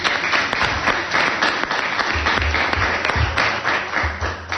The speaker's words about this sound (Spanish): Bueno, tenemos aquí un aplauso.